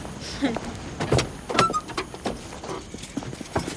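Clunks and clicks of truck doors opening and shutting, with shuffling and rustling as two people climb into the cab; several sharp knocks spread over a few seconds, no talking.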